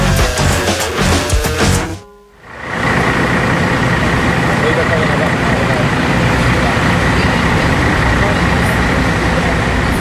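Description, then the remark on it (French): Idling tour coach engines rumble steadily and loudly at the Old Port (Vieux-Port) in Marseille, a row of coaches with tourists wearing small yellow badges in front, a dense continuous drone with a brief lull near the start, with indistinct voices mixed into the noise. “Et sur notre droite, il y a une série de cars de voyage, avec devant des touristes qui portent un petit badge jaune”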